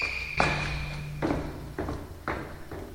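Very heavy footsteps in a school thud at a steady, unhurried pace, about five dull impacts over a few seconds, prominent, with a faint steady hum in the background and no talking.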